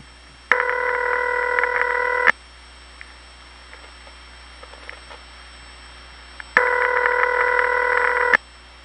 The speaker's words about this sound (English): Here's a call to another crossbar 5. It has the same ring type, but you can tell it's a different office.